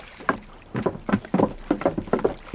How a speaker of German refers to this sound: Da, sehen Sie bloß. Da kommt einer von den Matrosen angeschwommen.